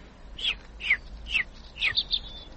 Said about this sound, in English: What kind of bird is he? Doesn't thou know? He's a robin redbreast. They're the friendliest, curiousest birds alive.